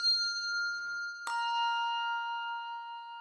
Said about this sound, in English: When you despair, ring one bell for hope. When you and your neighbor argue, ring two bells for peace.